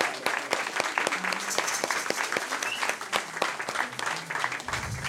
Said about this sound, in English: How about a round of applause for …?